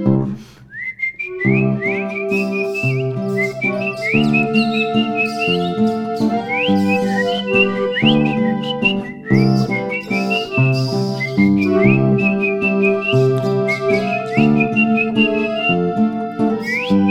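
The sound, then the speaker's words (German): A bright whistled melody imitates birdsong, with quick chirping trills and upward flicks repeating throughout, carried steadily over a full instrumental band accompaniment. “Ich fühl mich verlassen und traurig dazu, hab nur das Zwitschern vom Vogel im Ohr.”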